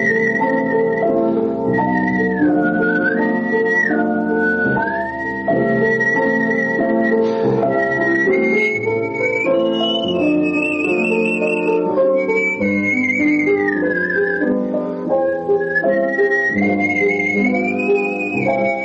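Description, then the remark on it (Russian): A clear, skilled whistle carries a flowing classical melody with gliding pitch and trills over a full instrumental accompaniment, sustained and prominent throughout, with no talking. “Я начинал насвистывать и искал какие-то интуитивно приемы.”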